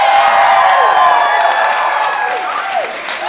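An audience in a bar bursts into loud, sustained applause mixed with cheers and a few rising whistles, holding steady for a few seconds before easing slightly toward the end.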